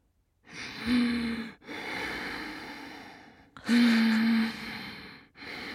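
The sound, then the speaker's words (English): A voice imitates someone's loud breathing while asleep in bed: two loud, rasping inhales with a low snoring buzz, each followed by a long breathy exhale. “The breathing was quite loud.”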